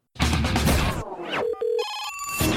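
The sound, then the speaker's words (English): A loud telephone bell rings in a harsh, clattering burst in the studio of the Metal Mayhem ROC radio show, followed by steady electronic tones and another brief jangle, with no one speaking. “And I think I see the phone ringing.”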